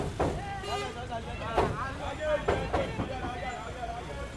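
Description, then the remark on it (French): Steady road rumble and wind rush from inside a moving shared car with the windows open on a hot day, passengers seated in front beside the driver and the back empty, with people talking over the continuous engine and traffic noise. “nous sommes assis à l'avant, à côté du chauffeur, mais derrière, c'est vide”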